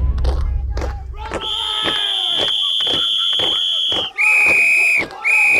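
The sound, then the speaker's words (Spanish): Agitated, shouting voices over a steady, rhythmic tramp of marching boots of men in green and black uniforms, the sound growing along the paths and avenues of a park, while a long shrill whistle sounds through the middle and then blasts twice more. “Estos uniformes verdes y negros, estas voces histéricas y este ruido amenazante de botas que va creciendo, amplificándose por las sendas y avenidas del parque, nos lo recuerda amargamente.”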